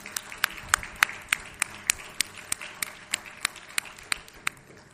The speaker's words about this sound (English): People that are linked together, I'll do together. Sound good? Then we'll clap together.